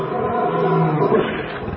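A lion roars in one deep, rumbling growl that holds steady and loud for a couple of seconds, with no voices around it.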